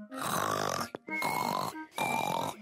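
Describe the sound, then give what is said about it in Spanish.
A voice imitates loud, pig-like snoring in three long, rasping snorts separated by brief pauses, forceful with a grunting, nasal texture. “Papá dice que siempre te duermes y roncas muy fuerte.”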